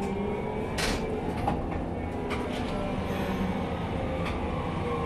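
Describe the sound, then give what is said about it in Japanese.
A tram bound for Oji Station idles at a stop with a steady mechanical hum and rumble, punctuated by a few brief clanks and hisses, like doors or brakes, with no talking. “王子までの電車です。”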